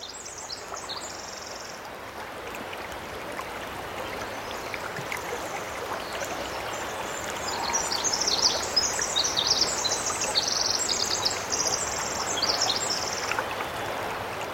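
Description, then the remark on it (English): Rainforest ambience on Chichagof Island, 65 miles northwest of Juneau in the Tongass National Forest, dominated by a steady, close rush of flowing stream water, with small birds chirping and twittering overhead throughout; the water swells slightly louder midway. No voices. “This is a little rainforest. This is a Chichagof Island, 65 miles northwest of Juneau in the Tongass National Forest.”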